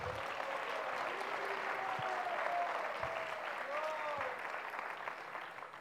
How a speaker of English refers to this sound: Then I also would like to thank all the devotees behind the scene who are organizing this wonderful event. An applause for them.